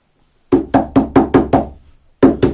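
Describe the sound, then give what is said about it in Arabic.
Heavy pounding on a door as people outside demand that Lot open it: six loud, evenly spaced blows in quick succession, a short pause, then two more hard thuds, with no voices. “افتح الباب افتح الباب يا لوط، افتح افتح الباب وإلا كسرناها علي.”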